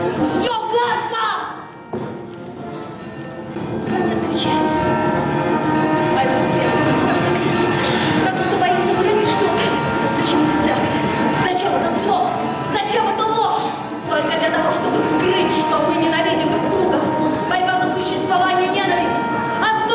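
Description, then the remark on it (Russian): Loud, restless orchestral music plays continuously, its dense strings driven by a steady, chugging pulse that suggests the clatter of approaching train wheels: the loose, disheveled leitmotif of the second act of an Anna Karenina work. “Лейтмотив второго акта – развинченная, расхристанная мелодия, в которой угадывается стук колес надвигающегося поезда.”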